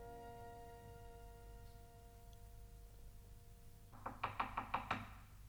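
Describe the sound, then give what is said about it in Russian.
A quick run of about six sharp knocks on a door, evenly paced, comes near the end after a soft, steady sustained tone. “Кажется, стучат.”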